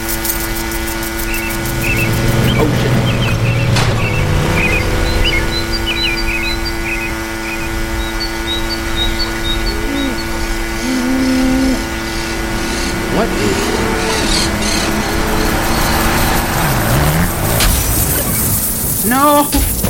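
A motorbike engine in a video game hums steadily throughout, its droning pitch rising and falling over a dense wash of synthetic game noise and chirpy electronic tones.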